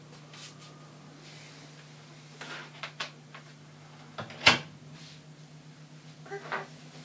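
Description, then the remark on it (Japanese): A door swings shut with one solid thud, preceded by a few light knocks and shuffling sounds over a steady low hum; no one speaks. “あ、 ドア開いてるから。”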